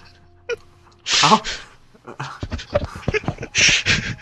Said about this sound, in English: Did your dog just get onto the microphone?